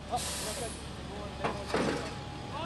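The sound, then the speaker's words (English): A police flatbed truck carrying about a dozen residents rumbles through knee-high flood water in Breezy Point, Queens, New York, a loud rushing hiss at the start and a couple of splashing surges later, with indistinct voices faintly in the background. “I'm in a flatbed truck the NYPD brought in to get residents through the knee-high water and back to their homes.”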